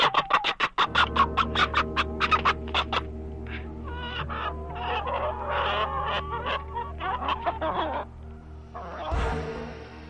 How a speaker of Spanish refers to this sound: y entonces el sombrero empezó a moverse por sí solo hasta que se volcó, liberando en medio de una enloquecida gritería a la gallina prieta que el coyote llevaba en la boca.